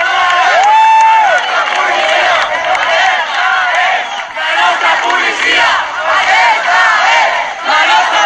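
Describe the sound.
A large crowd in Catalonia chanting and shouting together "la nostra policia" in support of the local Catalan police, the Mossos d'Esquadra, as they load ballot boxes; a loud, dense mass of voices that stays steady for the whole stretch with a few higher cries rising above it.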